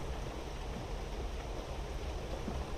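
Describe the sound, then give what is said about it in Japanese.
A steady, dense hiss of rain pattering on forest foliage, continuous and even, with a soft low rumble underneath like distant surf; no voices. “森の近くの駅で降りて、そこでレインコートと長靴を履いて、傘を差して歩いていくと、遠くからでも木に当たる雨の音が聞こえてきて、それだけで私ウキウキしちゃうんです。”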